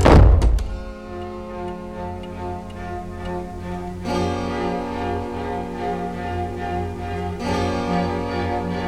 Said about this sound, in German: Etwas lauter als üblich ließ er die Tür hinter sich ins Schloss fallen.